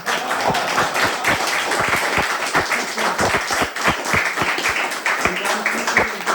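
An audience at a closing event applauds the speakers steadily, dense overlapping claps forming a continuous loud wash with sharper individual claps standing out, sustained throughout without talk.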